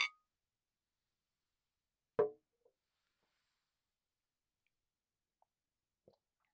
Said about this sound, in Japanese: ザ・コネモ乾杯。